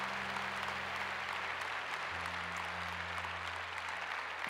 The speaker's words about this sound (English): Let's give the Lord a clap offering in this place. Thank you, Jesus.